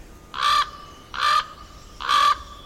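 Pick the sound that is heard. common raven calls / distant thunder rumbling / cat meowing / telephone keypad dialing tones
common raven calls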